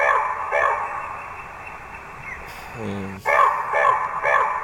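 A raven calls several times in harsh, hoarse croaks, loud and mid-pitched, in two short groups separated by a brief pause with a lower murmuring sound.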